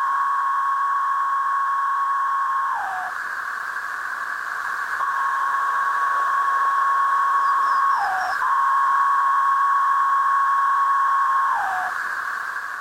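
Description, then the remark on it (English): A chorus of male periodical cicadas singing calling and courting songs in unison: a loud, continuous high buzzing drone that briefly drops and falls off in pitch every few seconds before resuming, with no voices present. “Calling and courting songs of the Major Cicada tretisson.”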